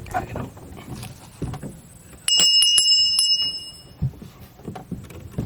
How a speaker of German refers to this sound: Die Glocke ertönt.